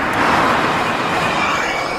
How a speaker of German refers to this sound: Und so klingt ein Auto, das auch mit einem Elektromotor fährt, allerdings mit Wasserstoff betrieben wird.